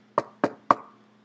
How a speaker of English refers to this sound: And they then have a Bible study at their house. One night, the knock comes.